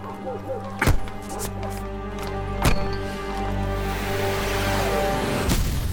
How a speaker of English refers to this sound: If a person wanted to invite debate, it was not uncommon to post documents on the church door. And so, with just a hint of hesitation, Luther took out his 95 Theses and began nailing them to the door. It was October the 31st, 1517, All Hallows' Eve.